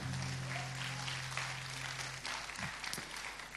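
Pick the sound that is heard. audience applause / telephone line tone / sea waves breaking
audience applause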